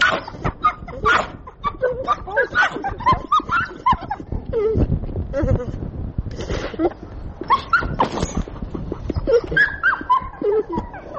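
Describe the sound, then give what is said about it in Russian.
A pit bull, one of Alexander Semenovsky's pets, vocalizes in a steady run of whines, yelps and throaty grumbles, its pitch rising and falling with barely a pause for about eleven seconds. “Я взяла коротенькое интервью у одного из питомцев Александра Семеновского.”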